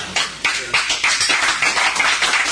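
An audience at a convention claps steadily, many hands making a dense, crackling patter of sharp bright slaps with no voices, holding a fairly even loudness throughout.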